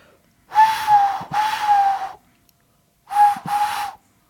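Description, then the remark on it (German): Someone imitates a cuckoo with breathy, airy whistles: two-note calls given twice, each note hollow and mid-pitched, with a short pause between the pairs and no talking. “Ich kann so einen Kuckuck ein bisschen imitieren.”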